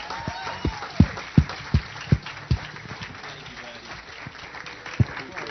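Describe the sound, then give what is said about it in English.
Audience applause: a dense wash of clapping throughout, punctuated early by a run of loud, evenly spaced thumps, then settling into steady clapping with one more sharp hit near the end. “please help me out by standing up and just go ahead and give him a big round of applause”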